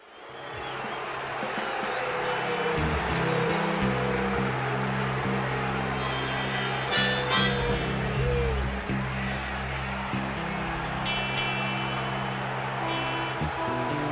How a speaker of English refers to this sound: you can hear the reaction of the crowd when they see what's about to happen